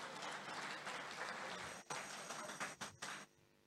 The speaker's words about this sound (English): Praise the Lord. Church, listen. Clap for Jesus.